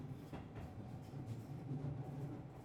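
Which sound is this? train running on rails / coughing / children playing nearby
train running on rails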